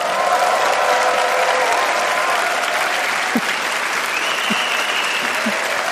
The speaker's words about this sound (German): Wir sind hier beim Podcast-Festival House of Podcasts und im Publikum sitzen 800, 900 Leute, die jetzt Hallo sagen.